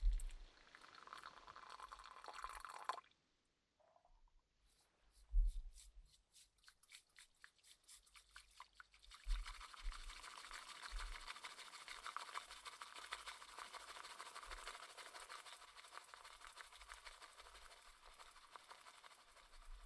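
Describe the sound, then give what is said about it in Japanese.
Rapid whisking of liquid in a tea bowl into a fluffy, frothy foam, a brisk rhythmic swishing that pauses briefly, then returns as a steady, dense frothing hiss with no voices. “ちなみにもう泡がふわふわに立ってるんですけど、再度この耳元で、本当はこうやっていっぱいやっちゃダメなんだよ。”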